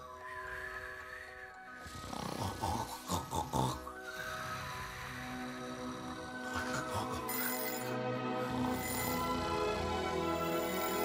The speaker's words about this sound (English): The little turquoise alarm clock goes off, as it does every morning of his get out of bed, good, better, best, never let it rest life.